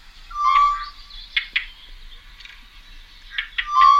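Two birds, one from a second pair, call in alarm at once, harsh, high-pitched cries overlapping with sharp repeated bursts and whistled notes that drop a tone in pitch and rise again, the last note higher, with no talking.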